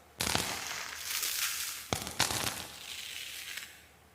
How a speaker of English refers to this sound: So let's go back to the Resident Evil door clip that I redesigned, basically. I recreated the sound effects. Let's listen to the dust and debris falling from the door.